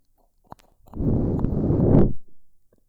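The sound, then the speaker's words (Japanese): A long, steady breath blown softly into the ear, a broad airy whoosh lasting about a second and a half, preceded by a small click and fading out with a faint trailing puff. “ほら、私の吐息が奥に届くでしょ？”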